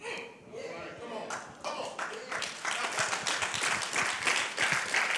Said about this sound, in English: And I hope you're clapping because you're not having a cultural moment, but you clap because you had a spiritual moment.